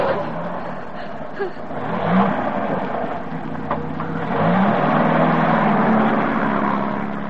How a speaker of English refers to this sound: Try it again. You've got the choke right out, you idiot. It's a strange car to me.